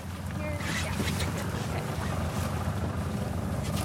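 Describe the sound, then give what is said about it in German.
A small white motorboat drones steadily along a fjord toward the Atlantic, its low engine rumble constant beneath gusts of wind buffeting the microphone and a wash of spray and waves. “Wir klettern vom Steg auf ein kleines weißes Motorboot und fahren den Fjord entlang.”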